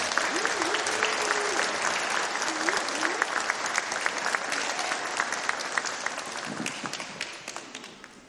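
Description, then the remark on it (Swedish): A church audience at a baptism breaks into sustained applause for the newly baptised child and for Jesus, dense and steady clapping that carries on for several seconds before thinning out, with a few faint voices murmuring underneath. “Och vi kan ju faktiskt applådera både det och Jesus som...”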